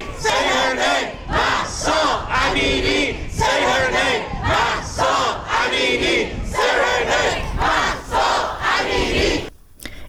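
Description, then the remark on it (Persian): A large protest crowd in Toronto, Canada, chants the name of Mahsa Amini loudly in unison, voices rising and falling in a steady repeated rhythm of short shouted phrases, roughly one burst per second, before stopping abruptly near the end. “اما در کانادا هم تظاهرات بزرگی برگزار شد، هم در شهرهای مختلف کانادا از جمله تورنتو که شاهد تظاهرات بزرگ بود و در اون باز نام مهسا امینی رو فریاد زدن.”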